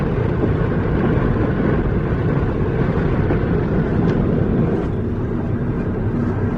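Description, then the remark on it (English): Steady, low rumbling road noise from a car cruising at highway speed about 6 miles short of the Utah border, a constant droning hum with no breaks or voices, as if heard from inside the vehicle. “You know, his car to its fullest, but it came through with flying colors, and here we are still flying along.”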